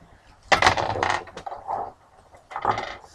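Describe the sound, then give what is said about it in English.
A clattering burst of two dice tumbling across a tabletop, rolled for a strength roll in a game, then a second lighter rattle a moment later, fairly loud with no talking. “Roll two dice.”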